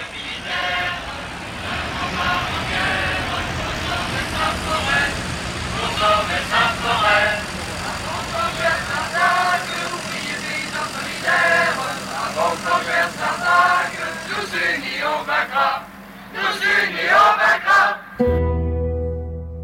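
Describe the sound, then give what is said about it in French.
Heavy engines of 25 tractors from the Larzac, France, setting off for Paris on 7 January 1973, rumble steadily in the background, a constant low drone, while several people talk over the noise; the engine sound cuts out near the end. “Le 7 janvier 1973, 25 tracteurs du Larzac s'élancent vers Paris.”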